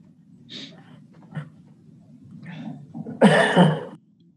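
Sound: coughing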